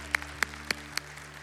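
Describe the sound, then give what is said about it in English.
Clapping from a church audience comes as four sharp, evenly spaced claps in a steady rhythm, fairly loud over a low constant hum, with no talking. “So you clap because I say we're still here, but I'm clapping every day because you're still here.”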